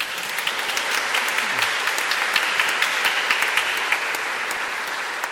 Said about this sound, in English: Good to have the choir back in the chancel. Right? They get a round of applause.